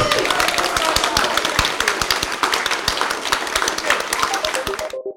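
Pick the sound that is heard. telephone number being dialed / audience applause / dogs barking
audience applause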